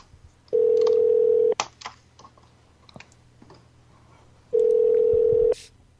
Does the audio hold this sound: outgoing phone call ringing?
yes